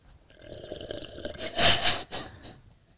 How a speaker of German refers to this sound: Okay. Eigentlich wollte ich noch weiter schlürfen, aber.